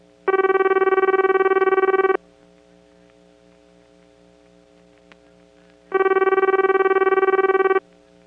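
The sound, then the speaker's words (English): A Japanese-type ring from a crossbar PBX made by the Nippon Electric Company, as added by Bell companies including New York Telephone: two steady, buzzy tones of about two seconds each, separated by a long pause, over a faint low hum, with no talking. “Meanwhile, some Bell companies, including New York Telephone, started adding crossbar PBXs made by the Nippon Electric Company, and they had a Japanese-type ring.”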